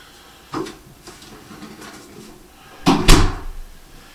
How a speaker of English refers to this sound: Lights out. Ooh, it's dark in here already. I'm going to close the door.